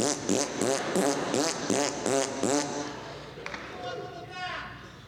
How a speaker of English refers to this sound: I was into the bilabial fricative, you know. I was so glad when I found out that had a real official name to it, man. Bronx cheer and raspberry never made it for me. Bilabial fricative.